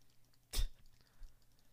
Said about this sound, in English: If you're hearing all the clicking. That's because I'm clicking my mouse.